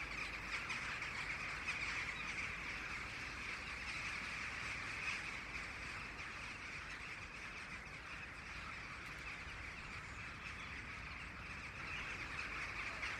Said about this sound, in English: in the evening and the rooks are just starting to gather. And if we look up above, there's about between 5,000 and 10,000 rooks coming in from perhaps 20 miles away from the fields. The farmland birds are coming in from the fields to roost at night.